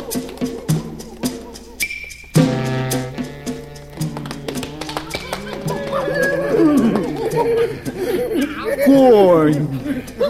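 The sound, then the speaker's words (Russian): A horse whinnies with a rising, wavering call while hooves clip-clop in sharp, steady taps early on, a voice sounding over the animal noises at moderate loudness. “Конь. Пес. Бык. Да-да, я все слышал.”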